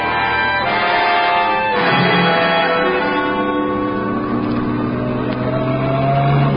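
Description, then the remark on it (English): A car engine revs hard and roars continuously, its pitch sweeping up and down as it accelerates and drives along, loud throughout with no voices. “Slow down to this corner, Blue Water.”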